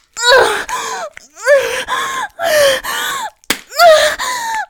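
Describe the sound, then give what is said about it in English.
A single sharp slap of a hand on the buttocks cracks out near the end, set among repeated loud, drawn-out gasping and moaning vocal cries with short pauses between them. “Every time you slap me, I tighten more around your cock.”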